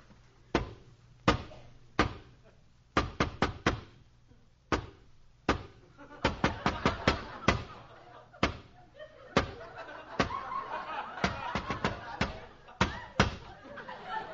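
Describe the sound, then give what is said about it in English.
The Artful Dodger's special patterned knock on Fagin's door: sharp wooden raps in quick clusters and pairs, repeated with short pauses over the whole stretch, while faint murmuring voices rise underneath in the second half. “I'll give the special knock.”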